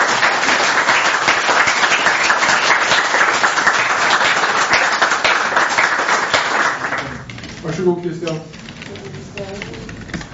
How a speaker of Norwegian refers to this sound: Jeg tror jeg bare vil si at jeg var stolt av dere allerede for 3 år siden, og jeg er enda stoltere nå, og synes vi skal klappe for dere.